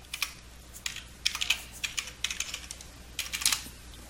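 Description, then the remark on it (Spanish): Rapid clicking of keys on a computer keyboard, typed in irregular bursts with short pauses, moderately quiet, with no voices, as a username and password are entered to join the computer to a network domain. “Bien, vamos a digitarlo y vamos a esperar a que este equipo se una al dominio.”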